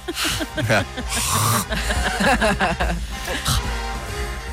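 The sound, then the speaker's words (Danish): Wet mouth noises as a person's tongue massages the palate after eating spicy food: rubbing and smacking against the roof of the mouth, with hissing air and bits of voiced grunting, continuing in uneven bursts for several seconds. “Så hvis jeg ser ud som om, at jeg lige er halvvejs i et gab, så er det fordi, at min tunge den er i gang med at massere min gane. Det siger sådan noget.”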